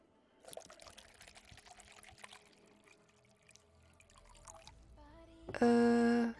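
An ice-cold glass of Darium 310 on the rocks is poured, with light clinks and a trickling, splashing stream for several seconds, then a sudden loud, steady humming tone cuts in at the end.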